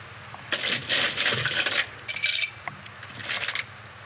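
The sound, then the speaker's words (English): Ice cubes clatter into a glass as the first step of mixing a Koepka Turbo drink, in a busy run of hard clinks and rattles, followed by a brighter ringing chink and a last short tumble of cubes. No one speaks. “So we're going to start with a little bit of ice.”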